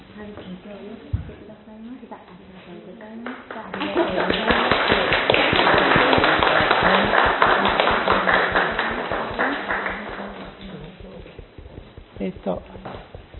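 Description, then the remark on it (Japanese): A church audience at a children's blessing ceremony breaks into applause as presents are handed over, swelling to a steady, dense patter of many hands for several seconds, then tapering off, with a voice speaking before and after the clapping. “はい、拍手のうちにプレゼントをお渡しいただきます。”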